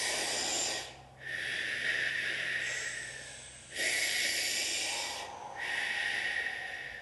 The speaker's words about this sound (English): It's called the whistle breath, so just pucker your lips like a whistle, so it's slightly open, and you're going to inhale through the mouth and exhale through the mouth.